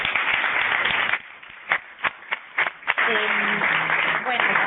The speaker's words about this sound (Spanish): Gracias. Un aplauso.